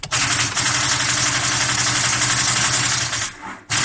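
A faulty car engine sputters roughly as the ignition is turned and it tries to start, firing in rapid, uneven bursts like a machine gun, loud and harsh, briefly dropping out near the end before kicking back in.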